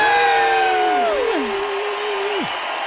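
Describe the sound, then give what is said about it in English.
A small group cheers loudly after chanting "one more sleep" three times, with sustained high whoops that slide downward in pitch and fade into a last falling shout after about two and a half seconds. “some reason, maybe somebody psychologically knows what this does to us, but we just chant those words, one more sleep, three times, and then we cheer.”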